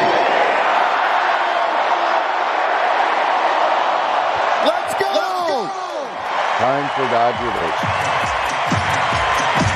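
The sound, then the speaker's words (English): A crowd of 50,000 at a Dodgers baseball home game roars steadily, then the voices shout a five-word phrase together in unison, loud and echoing, with the massed chant rising over the constant din. “He exhorted the crowd of 50,000 people to shout those five words.”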